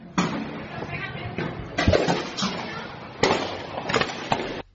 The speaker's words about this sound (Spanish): Este es el día a día de Venezuela. Y es un padre que está tratando de proteger a su familia, a su mujer, sí. Y le está diciendo a los hijos que se agachen porque están disparando, claro.